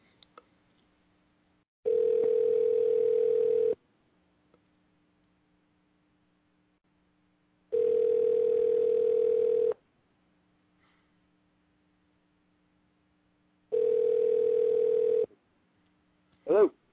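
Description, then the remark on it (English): An outgoing telephone call's tone, a call placed on a live show to Mr. Jeff Reed: three steady, mid-pitched buzzing tones, each about two seconds long, separated by roughly four seconds of silence, with a brief different sound at the very end. “And ladies and gentlemen, right about now, we are going to give a phone call to Mr. Jeff Reed.”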